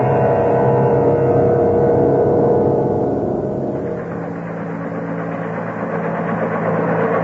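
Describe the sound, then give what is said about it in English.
A craft's helicopter system, activated before re-entry, spins up into a steady, loud mechanical drone with layered humming tones. Partway through, the pitch drops slightly and the sound settles into an even hover. “Well, before we head in for actual re-entry, we activate the helicopter system.”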